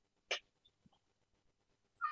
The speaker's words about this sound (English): Max just meowed. He can't raise his paw, but...